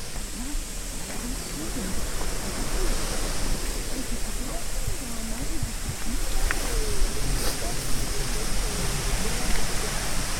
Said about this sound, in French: Alors là, on voit bien la prise Tardy. C'est juste en amont de la cascade.